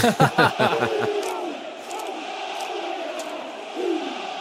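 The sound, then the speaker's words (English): The New Zealand rugby team performs the haka before a rugby match, chanting in forceful, rhythmic unison with several sharp shouted beats in quick succession. This gives way to a sustained roar and jeering from the large crowd at Murrayfield stadium. “I mean, it's the ultimate curtain raiser to a rugby match.”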